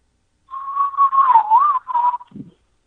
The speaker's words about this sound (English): All right, somebody whistled at me.